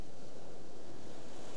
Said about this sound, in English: So maybe there's other rhythms present in our experience right here. The sound of the waves has a rhythm to it.